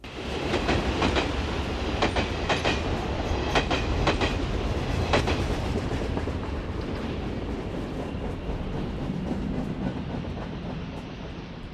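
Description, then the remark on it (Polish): A train rolls steadily along the rails with a loud, continuous rumble, punctuated by a series of sharp rhythmic clicks in the first half that gradually smooth out. No one speaks. “Otóż mieliśmy takich dwóch kolegów w liceum, którzy mieszkali w małej miejscowości pod lasem i dojazd do szkoły odbywał się właśnie pociągiem.”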